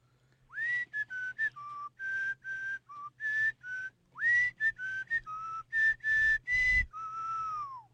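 A person whistles a bouncy tune in clear, close notes, two repeated melodic phrases with short gaps between them, alone over a faint low background hum.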